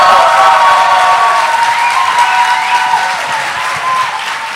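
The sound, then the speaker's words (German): A large audience in Nuremberg bursts into loud, sustained applause with scattered cheers and whistles, a dense steady wash of clapping that holds strong throughout without easing off. “Wie klingt so ein Applaus?”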